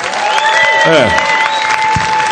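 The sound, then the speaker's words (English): A room full of people applauds steadily, a dense wash of clapping that holds at an even level throughout, with a short whistle-like tone cutting through the middle. “Do you guys mind clapping one more time”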